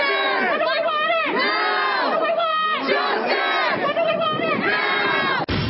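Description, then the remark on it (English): A large George Floyd protest mob in the United States shouts together in loud, sustained waves of raised voices, the pitch swelling and falling in rough chant-like surges before cutting off abruptly at the end. “As the George Floyd mob arrogantly grows across the United States.”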